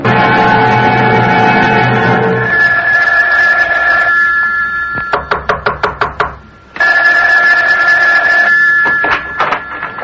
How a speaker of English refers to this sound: Isn't that your phone? I hear ringing. Yes. Why don't you answer it?